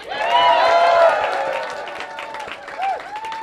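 An audience applauds steadily, with voices cheering and whooping over the clapping. It starts loud and eases off slightly toward the end.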